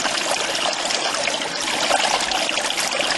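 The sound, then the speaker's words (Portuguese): Cool spring water trickles and splashes steadily, a continuous bright babbling with no pauses and no voices, on a trail running through a river in a remote area of a national park near Diamantina. “Água de nascente, fresquinha.”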